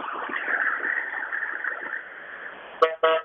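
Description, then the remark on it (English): A steady rumble of a bus passing by, then two short, loud blasts of its horn right at the end, one quickly after the other. The bus is pulling into a receiving center next to the front line, evacuating people from a besieged old quarter. “This is a bus that just pulled in into this receiving center here next to the front line, evacuating more people from the besieged old quarter.”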